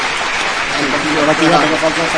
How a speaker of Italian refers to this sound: Ciao, ti facciamo un bel applauso.